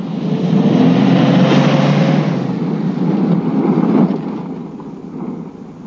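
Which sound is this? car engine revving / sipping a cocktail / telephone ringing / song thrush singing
car engine revving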